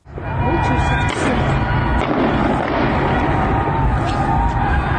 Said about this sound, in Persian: در برخی از تصاویر صدای بوق ماشین معترضین و گلوله نیز شنیده می شود. سازمان حقوق بشری هنگاو اعلام کرده که به دنبال انتقال علی دایی توسط نیروهای امنیتی به این هتل، تعدادی از مردم شهر سقز در اطراف هتل تجمع و نیروهای امنیتی به سمت آنها تیراندازی کردند.